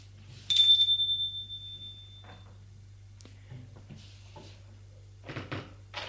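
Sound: doorbell ringing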